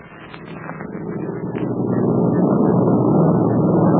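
A steady airplane engine drone, low and rumbling, swelling louder over the first couple of seconds and then holding a constant roar with no voices.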